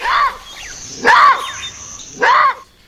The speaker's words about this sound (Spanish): ¡Ay, ese es el mono guariba! ¡Ay, cómo grita! Mira, se mueven grupos de 2 a 11 monos.